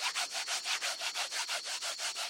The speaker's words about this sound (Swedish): Men det hördes bara ett konstigt skrapande. Nej, det är klart. Humlor kan inte låta som en syrsa. Vi surrar bara.